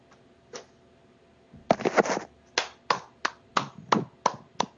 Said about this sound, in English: Little golf clap.